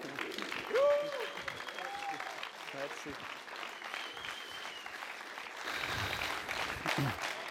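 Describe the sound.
Sustained applause from an audience, a dense, steady clatter of clapping for several seconds, with a few whoops and cheering voices rising over it early on and the clapping swelling again near the end.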